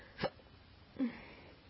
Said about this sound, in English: So, like, when I'm not talking, I always sigh after the hiccups.